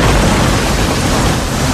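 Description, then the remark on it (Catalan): A loud, steady roar of heavy rain with a deep rumble of thunder underneath, filling the short stretch with dense, continuous storm noise and no voices. “Posa'm tempesta.”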